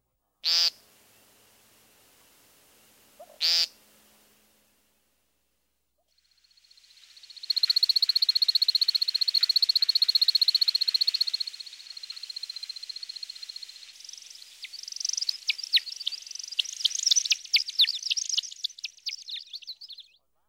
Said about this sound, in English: At least some of these twittering whistles are created by wing feathers during his spiraling flight display. Here's the American woodcock one more time.